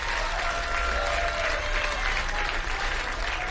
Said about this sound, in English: Are we done clapping? I don't want to stop on his applause.